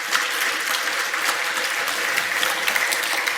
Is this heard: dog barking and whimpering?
no